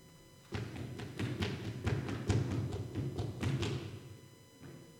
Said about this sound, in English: Is someone running? He hears these footsteps next to the carriage